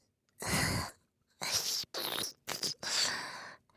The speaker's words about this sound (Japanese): ゲップ出そう。ねえ、してもいい？